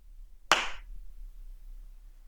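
A single sharp hand clap rings out, loud and crisp, fading within a fraction of a second into near silence with only a low background hum.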